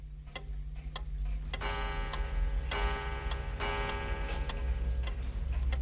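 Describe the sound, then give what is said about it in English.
A pendulum clock ticks steadily, roughly twice a second, with crisp regular clicks over a low background hum and a faint sustained ringing tone. “And by lengthening and shortening the bob on the end of this pendulum, they actually got very good time.”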